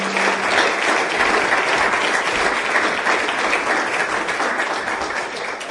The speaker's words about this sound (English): A round of applause, please, for Robert Wallace.